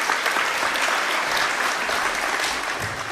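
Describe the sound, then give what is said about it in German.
Sustained applause from an audience welcoming a speaker to a talk, a dense steady patter of many hands clapping at once, fairly loud, continuing evenly for a few seconds without any voices. “Viel Spaß und einen großen Applaus”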